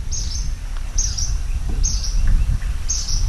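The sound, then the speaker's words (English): Crickets and cawing water birds chirp in a steady morning chorus on the remote Xingu River in the state of Pará in the Amazon, amid green forest, with shrill high bursts repeating about once a second over a constant low outdoor rumble. “Cawing water birds and crickets lead the morning chorus.”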